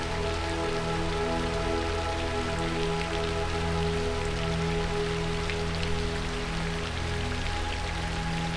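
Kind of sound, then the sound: nature, rain falling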